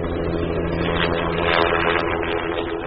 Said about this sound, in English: This helicopter is lifting Christmas trees off of hills in southwest Washington state that trucks can't get to. A lot of large growers use choppers to move trees fast.